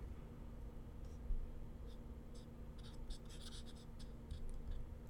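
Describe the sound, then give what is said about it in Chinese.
A pen scratches across paper in short, irregular strokes, fairly quiet, over a low steady hum with no voices. “姐夫的字真好看，姐姐就老嘲笑我的字丑，说我怎么写都不如她的好看。”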